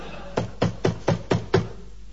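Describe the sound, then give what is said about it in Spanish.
Five quick, evenly spaced, sharp knocks on a door in a steady rhythm, with no voices. “Que me parece que es Rolón que golpea la puerta.”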